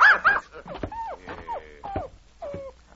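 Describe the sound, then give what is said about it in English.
A funny-looking dog named Schnitzel, following a man around, barks in a quick run of about five short, high-pitched yaps and yips, some sliding into whiny tones, with no talking over them. “This funny-looking animal, he keep following me and barking all the time.”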